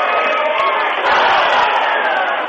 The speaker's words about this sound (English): So I'm going to let you listen to the crowd here as they wind it down. We're under a minute.